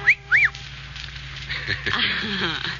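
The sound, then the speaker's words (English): Two brief, high whistled chirps, a short whistle about a woman's dress, each rising and falling in pitch, sound in quick succession, followed by a short pause before a voice starts talking. “Well, then you should have made the whistle shorter, like this.”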